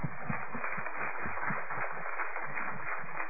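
An audience at a church gathering applauds to thank those who gave songs, a message and sharing, a dense, steady wash of many hands clapping at an even level throughout, with no voices standing out.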